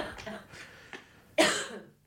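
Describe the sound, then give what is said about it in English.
A raspy smoker's cough, a couple of smaller hacks followed by one loud, harsh burst near the end that trails off, with no one talking. “To hearing that cough from people when I was a kid.”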